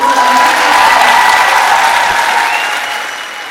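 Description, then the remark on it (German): Steady, loud audience applause, a dense wash of many hands clapping that holds for a few seconds and then slowly begins to fade, as a singer receives the David Award as artist personality of the year. “Ja, und bei solchen Awards gibt es doch dann nach dem Applaus immer auch eine Dankesrede, oder?”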